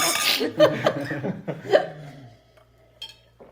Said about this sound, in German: Ich studiere Prost, Jungs. Kommt, warte, wir müssen erst mal anstoßen.